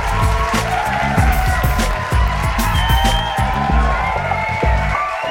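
A crowd cheers and claps loudly and continuously to welcome the performers back, over a pulsing, rhythmic musical beat, the noise holding steady for several seconds without a break.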